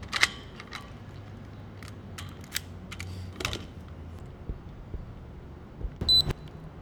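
A bike lock being fastened to a bike rack about 50 yards from the front door of Maine Medical Center in Portland: a scattering of metallic clicks and rattles, ending in a louder ringing clank near the end, with a low hum of traffic behind.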